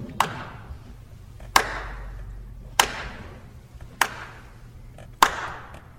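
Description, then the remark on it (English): Five slow, deliberate hand claps, evenly spaced about a second apart, each a sharp crack with a brief ringing tail over a faint low hum. “Here's a clap for the notion that bullies can win.”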